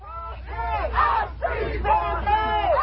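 A protest crowd in the streets of Memphis, Tennessee, blocking traffic after the release of body cam footage of the fatal police beating of Tyree Nichols, shouts in unison, loud overlapping voices rising and falling in sustained chant-like bursts over a steady low rumble.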